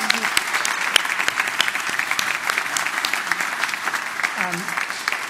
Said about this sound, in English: Well, listen, you were fantastic and the star of the show there, and I think you deserve a big round of applause. Well done.